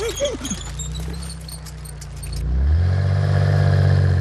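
A race car, Kalli Rennauto, drives very slowly while lighting up the street; its engine hums with a steady low rumble swelling louder partway through, with light jingling and clattering sounds early on; no one speaks.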